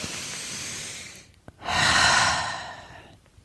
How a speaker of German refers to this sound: Hey, also lass uns bitte mal kurz in die Dankbarkeit für, also ernsthaft, also erstmal, meine Worte überschlagen sich, wir atmen.